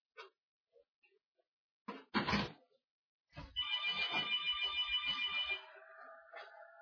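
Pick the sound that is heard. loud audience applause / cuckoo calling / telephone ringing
telephone ringing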